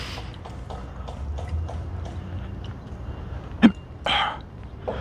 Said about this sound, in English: So now I have the hiccups. Something new and exciting.